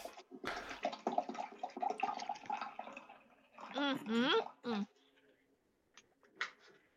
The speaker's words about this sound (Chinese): 可以了，喝吧。不，你这么他妈的喝水怎么一小口一小口喝的，一点都不雄壮。